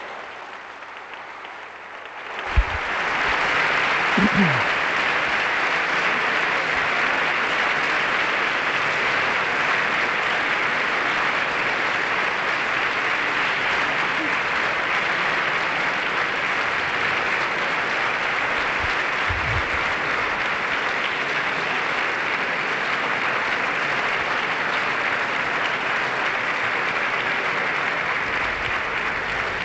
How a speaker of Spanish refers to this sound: La ovación a la Constitución española en este patio de los invitados.